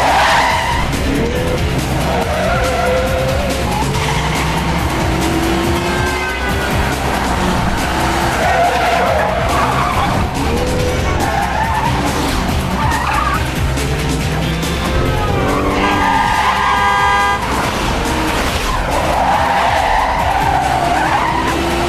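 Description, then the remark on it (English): DeBaku's Jeep swerves hard around a yellow cab in a chase, causing the cab to spin; tires skid and squeal, high screeching streaks rising and falling over a continuous loud engine roar, with repeated skids through the stretch and no talking. “DeBaku's Jeep swerves around a yellow cab, causing it to spin and block the road.”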